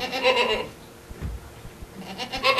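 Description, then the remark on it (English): Goats bleat loudly in two bursts at a goat farm in Tampa, one at the start and another near the end, with a quieter stretch of low shuffling and farmyard noise in between. “The next day, the class headed to the Dancing Goat Farm in Tampa to see food at its original source.”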